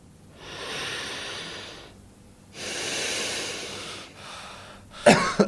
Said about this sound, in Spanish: Me dio tos.